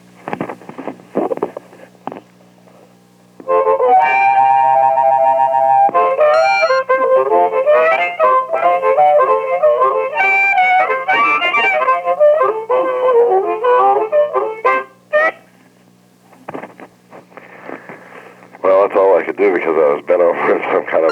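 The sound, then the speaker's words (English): A harmonica plays a loud, reedy tune of wavering chords and quick melodic runs for about twelve seconds, with rustling and a voice before it starts and again after it stops. “I guess you want me to play some harmonica now, right?”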